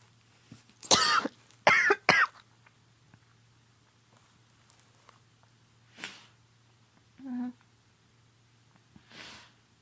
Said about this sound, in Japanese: ね、ごめんなさい、咳が。で、咳が出てしまった。ちょっと、病み上がりなのでごめんなさい。